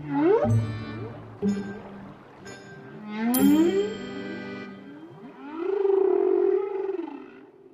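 animal, whale vocalization underwater

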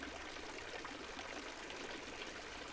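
ambience, fountain water splashing

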